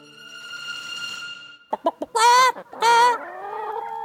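bird, chicken clucking

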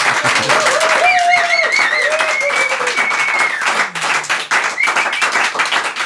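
crowd, loud audience applause

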